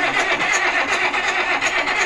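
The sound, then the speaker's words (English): A John Deere tractor engine cranks and turns over, a loud, continuous mechanical churn with a faintly pulsing rhythm throughout, and no voices. “Just think, if you're behind the wheel of your car, oh, this is a tractor, obviously”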